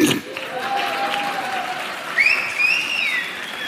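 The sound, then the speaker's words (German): An audience, many of them women, claps in a steady, dense stream of applause lasting several seconds, with a few high-pitched whoops or whistles rising above it near the end. “Viele Frauen klatschen, meine Frau so.”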